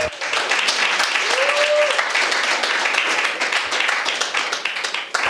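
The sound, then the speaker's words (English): An audience applauds steadily to welcome a speaker about to preach at a morning service, dense overlapping claps sustained for several seconds at fairly loud level, with a brief whistle-like tone rising near the start. “Shall we give him an encouraging round of applause to welcome him?”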